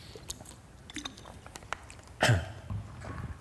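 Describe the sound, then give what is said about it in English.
A person sips water: soft wet mouth clicks, then one louder gulping swallow partway through, followed by quiet breathy mouth sounds. No one speaks. “sorry, let me just grab some water here so I can actually do this.”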